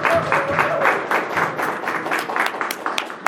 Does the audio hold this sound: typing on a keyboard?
no